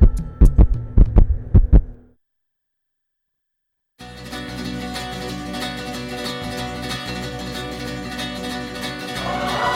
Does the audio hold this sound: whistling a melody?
no